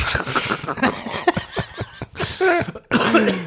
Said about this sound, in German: Du hast ein kleiner Husten, hä?